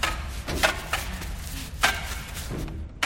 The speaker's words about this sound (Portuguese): A trombadinha engatinha dentro do duto de ventilação.